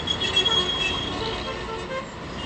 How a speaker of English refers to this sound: The streets of Baghdad are packed with honking cars.